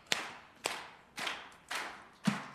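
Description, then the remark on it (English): An audience claps together in unison on a counted 1, 2, 3, 4 rhythm while rehearsing: five sharp, crisp claps at a steady, even beat, each with a short fading tail. No one speaks between the claps. “So we'll say 1, 2, 3, 4. You will clap, okay?”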